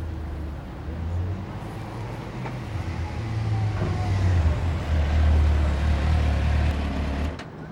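A motorbike engine idles with a steady low rumble, then revs and swells louder for a few seconds before dropping off near the end, with no voices.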